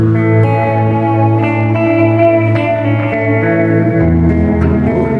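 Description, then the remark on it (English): A sustained, loud guitar tone played through a Catlin Bread Add an Echo oil can delay pedal, drenched in warbling delay, its repeats smearing into a dreamy, wavering wash with a slight chorus-like shimmer, playing alone with no talking. “It's the Catlin Bread Add an Echo, which is just a super cool oil can delay.”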